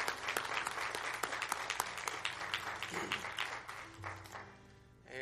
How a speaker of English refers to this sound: Let's give a round of applause for her.